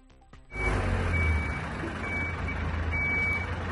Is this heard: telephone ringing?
no